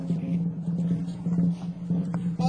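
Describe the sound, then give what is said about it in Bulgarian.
A steady, low rumbling drone of trucks on a highway at around 4 o'clock at night, continuous and fairly loud throughout, with a deep, even hum and slight fluctuations as traffic passes. “Вече се чува грохота на камионите по магистралата.”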